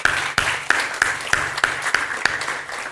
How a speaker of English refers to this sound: Can we give a clap offering to the Lord?